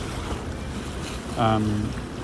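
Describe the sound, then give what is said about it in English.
Steady rushing of the brown water of the River Thames runs throughout at a moderate level, with a brief low droning tone, like a passing boat, rising over it for about half a second near the end. “Anyway, maybe you can hear the Thames, the brown Thames.”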